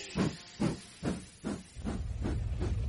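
A steam locomotive pulls away with a steady series of loud, hissing chuffs, about two per second, the puffs blurring into a continuous rush of steam by the end.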